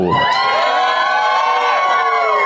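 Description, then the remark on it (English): A loud crowd cheers and whoops continuously, a dense wall of excited voices with high shouts rising above it, sustained for a couple of seconds at steady volume. “You bring a crowd.”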